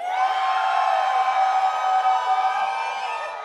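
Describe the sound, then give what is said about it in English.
A partying audience in Aspen lets out a loud, sustained yell together on the count of three, a dense wall of overlapping voices that holds steady for a few seconds before easing slightly at the end. “On the count of three, give out your best yell.”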